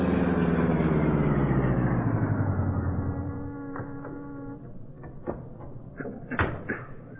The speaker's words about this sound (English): Cato drove in the Black Beauty to the docks at the foot of Water Street. There, the powerful streamlined car was brought to a stop in the shadows.